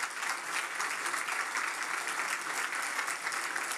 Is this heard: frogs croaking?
no